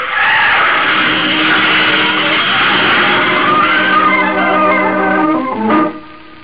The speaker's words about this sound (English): He jams on the brakes. But it's too late. The heavy bus smashes into Ben Hogan's car.